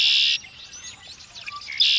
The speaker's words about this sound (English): Red-winged blackbird.